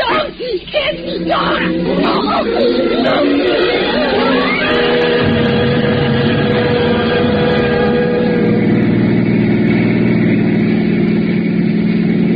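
A steady, droning engine of a car driving behind a slow truck hums continuously, with a low rumble and rising harmonic tones early on that settle into an even, sustained mid-pitched whine.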